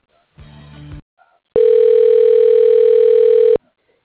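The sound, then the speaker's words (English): A phone line rings as a call is transferred to another phone at Stadium Autobody: a brief low buzzy burst, then one long, steady, loud electronic ring tone lasting about two seconds, with no one speaking. “I could put you over to his phone.”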